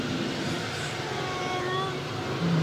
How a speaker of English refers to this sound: I think I'll give this old baby a spin on the freeway. Wrong way. Entering freeway. Here we go.